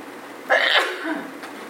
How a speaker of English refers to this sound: I never just do one. What? I never just do one sneeze. Oh, okay. So I'm standing here waiting because I always do multiples. Why aren't I doing multiples today?